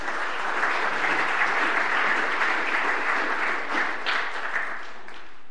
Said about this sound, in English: Big clap. Thanks, guys.